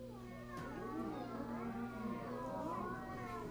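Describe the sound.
Several voices imitate a cat, overlapping drawn-out meows that rise and fall over a steady low hum, sustained for a few seconds at moderate loudness.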